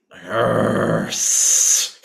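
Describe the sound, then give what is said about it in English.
A voice imitates an angry mammal, snarling with a rough, low growl that shifts abruptly into a sharp, sustained hiss lasting under a second, then cuts off. “Snarling, yep. Growling, hissing sounds.”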